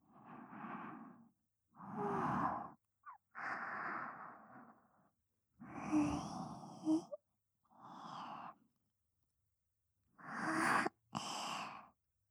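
A person yawns repeatedly, with about seven drawn-out, breathy yawns separated by short silences, some ending in a sighing exhale.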